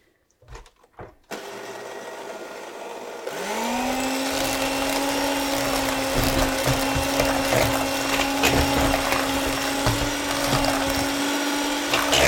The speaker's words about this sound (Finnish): Ja sitten mä joudun sammuttaa hetkeksi tämän vatkaimen, että mä otan ton liivatteen ja laitan sen tonne sekaan. Ja sitten kunnollinen, tosi kunnollinen vatkaus. Mutta ei täysillä tarvitse.